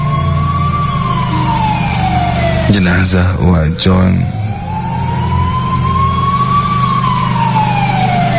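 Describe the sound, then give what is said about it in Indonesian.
An ambulance siren wails loudly from an arriving ambulance car, its tone sweeping slowly up and down over a low engine rumble, interrupted midway by a brief voice speaking. “Disusul mobil ambulans di belakangnya. Suara sirene dari ambulans itu memecahkan ningan.”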